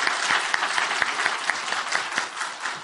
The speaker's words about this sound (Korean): 다시 한번 뜨거운 박수로 격려하겠습니다.